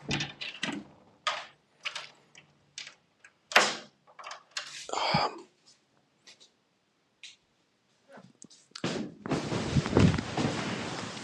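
A door is locked: a series of sharp clicks and clunks from the door and its lock, scattered across several seconds, followed by a longer rustling, shuffling noise at the end.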